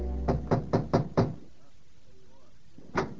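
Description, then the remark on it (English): Five quick, evenly spaced knocks rap on the door of a room at the Y in Woodhaven, fairly loud, followed by a quiet pause before more sound starts at the end. “My heart was filled with conflicting emotion as I knocked on the door.”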